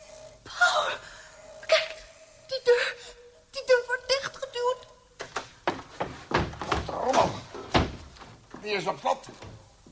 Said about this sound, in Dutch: Ik zag alleen die deur bewegen.